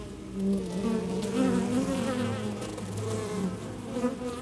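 A dense, steady drone of many honeybees buzzing around a hive, the overlapping hum wavering slightly in pitch and loudness throughout, with no voices.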